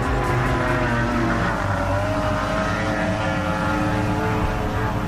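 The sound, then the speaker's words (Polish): Racing powerboat engines roar loudly and continuously on the lake at Rogoźno, Poland, during a round of the Polish powerboat championships: a dense, buzzing drone whose pitch wavers slightly as the boats hold speed, with no voices. “W sobotę nad jeziorem w Rogoźnie duże wydarzenie dla wszystkich fanów sportów motorowodnych. Druga eliminacja motorowodnych mistrzostw Polski właśnie tutaj się odbywa”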